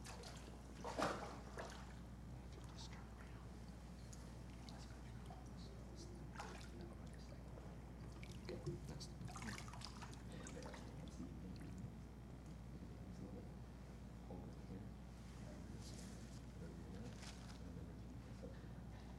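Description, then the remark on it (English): Water sloshes and splashes softly in irregular bursts as a person wades into a baptismal pool to be baptized, over a steady low hum, with faint murmuring voices in the background. “if you'll come into the water.”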